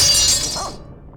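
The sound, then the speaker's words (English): A pair of shears tumbles from a mounted tool rack in a garage in one bright, harsh metallic crash, its high ringing fading out within about a second, with no voices. “A pair of shears tumbles from the rack.”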